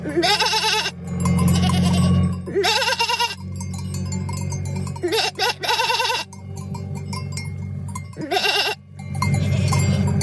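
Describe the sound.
A person imitates a goat with loud, quavering bleats, repeated four times with pauses between, while a group of goats crossing a road on Kos, a Greek island, bleat back, over a steady low rumble in the background.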